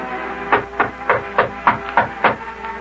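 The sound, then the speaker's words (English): A steady series of about seven knocks on the door of the mayor on his wedding day, evenly spaced and moderately loud, each a dull, hollow rap over a faint background hum, with no voices. “Well, go ahead and knock there”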